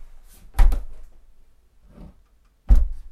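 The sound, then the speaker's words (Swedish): A door is shut twice, each closing a soft, muffled thump with a brief rattle, spaced a couple of seconds apart with faint handling noise in between. Quiet overall, no talking. “Så hur låter den här dörren då? Och när den är stängd.”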